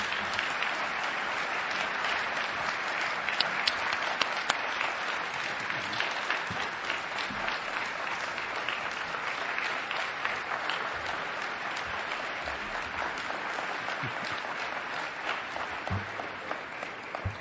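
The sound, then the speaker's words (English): Sustained applause from an audience, a dense, even wash of many hands clapping at steady loudness for the whole stretch, with no voices standing out. “So can you join me in giving a round of applause”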